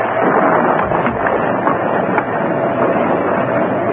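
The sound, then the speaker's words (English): Strong wind, just come up as rain begins, blows in a loud, continuous roar with slight gusty swells, filling the whole stretch with dense rushing noise and no voices. “The wind's come up.”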